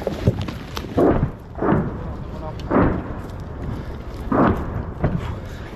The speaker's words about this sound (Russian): Сейчас идем. Обстрел град.